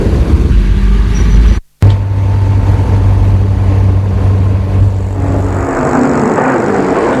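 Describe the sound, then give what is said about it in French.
Steady low engine rumble and road noise from a car driving to a nursery school, interrupted by a brief moment of silence, then continuing with a hissier, smoother tone. No one speaks. “La voiture s'est arrêtée devant la maternelle.”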